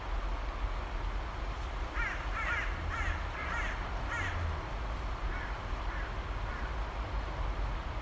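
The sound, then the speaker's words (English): Rooks cawing off in the distance by a river in Ireland, a loose series of harsh, grating calls, several bunched together then spaced out, rising over a steady low rush of flowing water. “I think they might be rooks off in the distance.”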